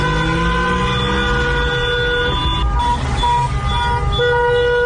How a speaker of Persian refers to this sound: صدای مردم شیراز رو بشنویم که در ماشین نشستن و اعتراض میکنن. 17 مه شیراز نادیاباد.